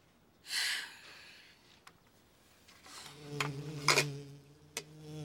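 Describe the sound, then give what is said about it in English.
A bee's steady, low buzz hums through the second half, preceded by a short breathy rush of air and a few sharp clicks. “It's just a bee.”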